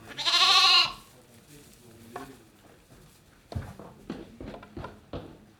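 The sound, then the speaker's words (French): A sheep lets out one loud, quavering bleat, then a large new sheepfold beside a lavender field in Bourdeaux, in the Drôme hills of France, settles into quieter shuffling, hoof taps and scattered faint animal sounds. The flock is about 100 ewes and some 90 newborn lambs. “Rendez-vous chez Franck Darret, à Bourdeaux, ici pas de vigne, mais un champ de lavande, au pied de sa grande bergerie toute neuve.”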